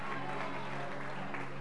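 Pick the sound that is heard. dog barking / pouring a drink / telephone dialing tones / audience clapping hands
audience clapping hands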